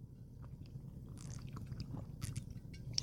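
Someone takes a few quiet sips and swallows of water, with small mouth clicks and wet gulping sounds over a steady low rumble, and no one speaking.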